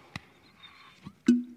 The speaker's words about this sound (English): I just whacked myself in the head with my own water bottle.